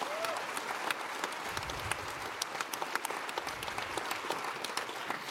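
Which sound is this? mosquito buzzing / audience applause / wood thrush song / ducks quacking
audience applause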